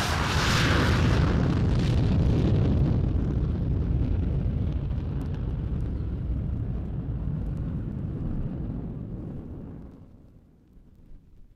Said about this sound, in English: Last one, and this is the most popular passenger aeroplane in the whole world at this moment, is the VC-10. This is a British aeroplane, and need I say it, with Rolls-Royce turbine engines.